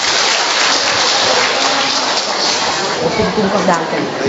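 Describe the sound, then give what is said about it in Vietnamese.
A crowd applauds to give thanks to God, a dense, even wash of many hands clapping at once, sustained at a loud level for several seconds without pause. “Chúng ta cho một tràng pháo tay nữa để chúng ta tạ ơn Chúa.”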